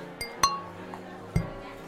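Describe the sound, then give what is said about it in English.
A tin can clinks against a glass in a quick toast: two or three sharp taps with a brief metallic ring, over faint background murmur. “The tin and the glass, they just don't quite work together.”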